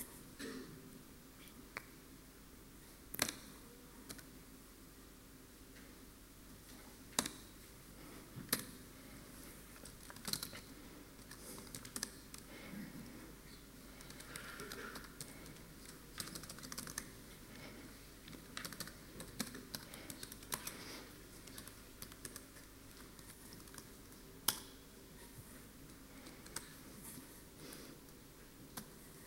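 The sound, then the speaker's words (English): Irregular bursts of computer keyboard typing, sharp key clicks in uneven clusters with short pauses, fairly quiet, continuing for half a minute with no one speaking, while running a script to align layers. “Okay, I'm going to run a script to align the layers because they're aligned only vertically by the virtue of me bumping them against the F keys.”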